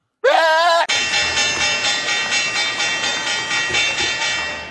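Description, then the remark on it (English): A loud electric stock market opening bell rings continuously with a rapid, steady pulsing clang, preceded by a brief rising tone, as the hog market opens. It fills the whole stretch with no voices over it. “That was the market's opening bell”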